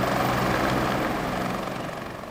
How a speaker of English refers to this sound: Well, I took my helicopter to work this morning. Was that the noise that we heard?